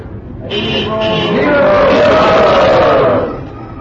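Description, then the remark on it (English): A crowd of voices joins in a loud, drawn-out roar imitating lions, swelling for about three seconds before trailing off into murmuring. “It didn't sound like lions roaring.”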